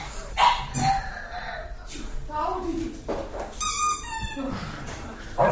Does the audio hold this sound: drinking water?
no